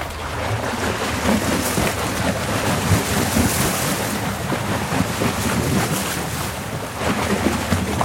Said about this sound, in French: Il y a un bateau qui est passé, c'est ça ? Ah oui, c'est le bateau qui fait ça. Incroyable. Et alors ça, ils appellent le battement de l'eau. Et en fait, ça, plus il y en a, et plus vous avez les berges qui s'érodent.